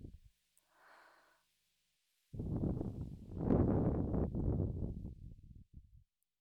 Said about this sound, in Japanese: お姉ちゃんの吐息、気持ちいい。もっとしてほしい。